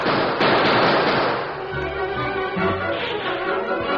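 Loud, noisy gunfire erupts at a sleeping camp, starting with a sharp crack, then the blasts fade into a lower, ringing rumble. No one speaks.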